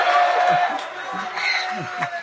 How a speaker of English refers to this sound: We got a crowd. Let's hear it, Yahweh. Praise Yahweh.